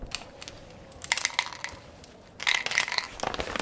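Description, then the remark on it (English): Dice rattle and clatter across a snakes and ladders board in two bursts of quick, bright clicks, the second burst a little louder, with no voices. “You get to throw again after you've been down the snake.”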